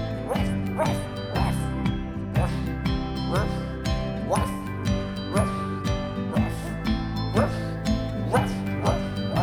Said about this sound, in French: Naëlicia a un petit chien. Il est waf, il est ouf, et c'est son meilleur copain.